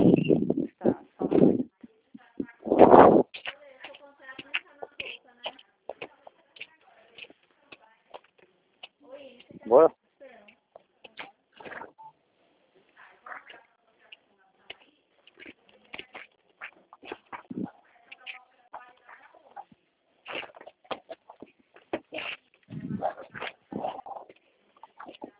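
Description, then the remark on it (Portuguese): A horse makes a few loud sounds that come and go, with scattered voices and background chatter over a phone-like line. “Cavalo aí, peraí, você.”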